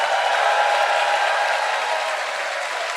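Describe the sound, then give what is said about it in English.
Sustained applause from a large audience for the technicians and everyone who tried to help, a dense, steady wash of many hands clapping at once, loud and even throughout with no voices standing out. “I will also just say, can we please have a very fucking large round of applause, not just for the technicians, but everyone who tried to fucking come and help, please?”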